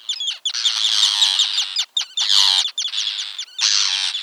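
Harsh, high-pitched screaming of terns in loud, raspy bursts, several birds calling over one another in long overlapping cries broken by brief gaps, with no voices.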